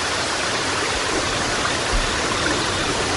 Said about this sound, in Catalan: Atenció, perquè aquest senyor del que us parlava, en Todd Moore, té aquests podcast de 9 hores de durada ininterrompudes, com per exemple Riu amb grills.